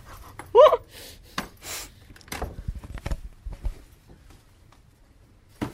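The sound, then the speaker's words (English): A dog pants in quick, breathy huffs, with a short yelp-like sound near the start and some soft shuffling in the background. “Hey, doggy. Who's told you to come in?”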